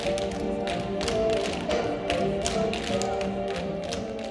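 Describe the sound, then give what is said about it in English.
Rapid, crisp tap-dance steps clatter in quick, syncopated bursts over steady background music, the bright metallic clicks landing in uneven clusters throughout. “I've been able to loosen up and tap and then just have fun.”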